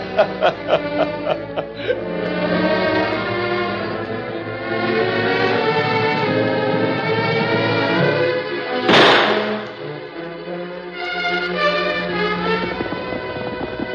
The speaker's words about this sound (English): A gunshot, Tonto. It sound round them. Dane must have caught up with Dutch.